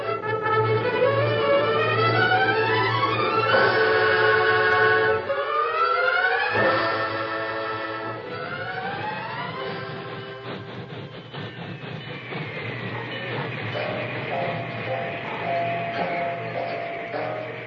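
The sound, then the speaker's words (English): A train rumbles loudly along the rails, with steady low clatter beneath rising and falling whistle-like squeals and screeches that sweep up and down in pitch. “Plenty of time to eat before the train starts again.”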